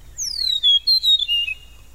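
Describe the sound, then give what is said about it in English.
An Eastern Meadowlark, a grassland bird, sings a series of clear, sweet whistles that slur downward, followed by its rattle-like call note, sounding bright against a faint low rumble, with no one talking. “Beautiful smooth whistles, and there's its rattle-like call note.”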